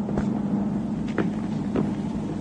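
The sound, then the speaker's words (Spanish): A steady, loud low rumble from the Duke's vehicle engines drones on with no one speaking, broken by a few short bursts of sharper noise, as if motors are revving. “Conozco el ruido de sus motores.”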